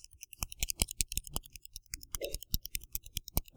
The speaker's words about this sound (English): Don't realize you're doing it sometimes in church. Got a pen, clicking it, whatever, doing that.